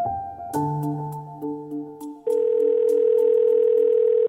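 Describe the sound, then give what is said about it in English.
Steady electronic telephone tones hum and shift pitch, then a louder, sustained dial tone sounds continuously for about two seconds before cutting off abruptly as an outgoing phone call is placed. No voices are heard. “So I got on the phone”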